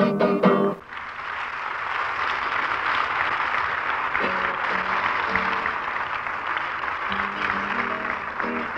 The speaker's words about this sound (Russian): Спасибо. Вы извините, что я прерываю ваши аплодисменты.